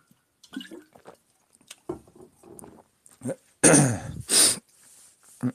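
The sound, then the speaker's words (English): Someone takes a sip of a drink: soft wet slurps and small mouth clicks, then two louder, breathy gulping bursts as they swallow and exhale, with no talking. “All right, let me take a sip.”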